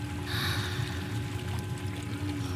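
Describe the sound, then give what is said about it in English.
Nine powerful rotating massage water jets stream steadily, a continuous rushing hiss over a low mechanical hum, with no voices. “Go ahead and place your cock onto the jet stream.”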